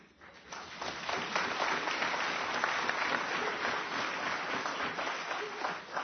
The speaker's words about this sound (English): Mr. Premier, I should go into politics, getting an applause for a line. Always happens.